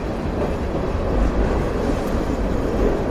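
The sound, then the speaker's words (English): A freight train rumbles by right overhead in Winnipeg on a chilly day, a steady, loud, low roar of rolling wagons that fills the whole moment without pause, heard from below. “Oh, it's a freight train going by right above our heads.”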